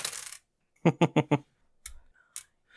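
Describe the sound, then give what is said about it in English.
Physical dice rolled onto a hard tabletop for a spell's damage in a tabletop role-playing game clatter in a quick burst of four sharp clicks, followed by a few softer taps and rattles as they settle, fairly loud with no talking. “I know we got this fancy thing, and I keep going for my dice because I'm old and analog.”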